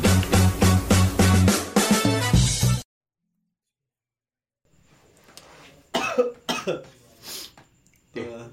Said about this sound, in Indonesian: Kenapa lo? Kok batuk? Flu.